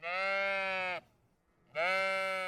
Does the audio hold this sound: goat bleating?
yes